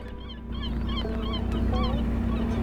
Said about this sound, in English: So we're sailing next to Garden Island. This is in the Muscle Ridge Channel. It's a gull and cormorant colony. There's maybe, I can't see the whole island, so I'm not sure how many cormorant nests there are, but there must be at least 75 nests.